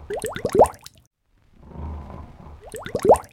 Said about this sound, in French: À côté, dans son panier, Barbotte ronfle.